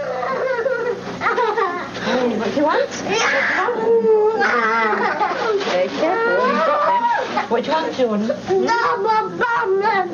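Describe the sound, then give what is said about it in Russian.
A child screams and wails in a tantrum, with loud, high-pitched, wavering cries and sobbing shrieks that rise and fall continuously for the whole stretch, barely pausing for breath. “Тантрум. Называется то, что вы слышали. Неконтролируемая вспышка раздражения, истерика.”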